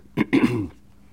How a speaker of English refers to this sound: If you notice, when I clear my throat, everybody clears their throat. Thank you for your help.